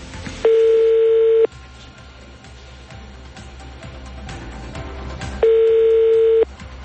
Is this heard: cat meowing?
no